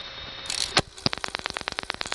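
About a second and a half after the last digit is dialed, a sharp, distinct tick of the Allentown electronic telephone switch connecting the call through to the switching system serving the number called, after a brief hiss, then a rapid, steady train of dry mechanical clicks. No voices.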